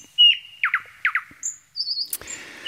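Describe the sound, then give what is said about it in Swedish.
A nightingale sings alone: a thin whistled note, then paired sharp downward chirps repeated twice, followed by a high trill and a rattling buzz, with no talking. “De tekniska förutsättningarna har förändrats en smula, men näktergalssången är densamma.”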